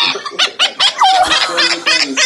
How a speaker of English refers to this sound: See, hear this? This is a bird. The kookaburra? I want this bird. This bird could heal the nations. That's a bird? It's a bird.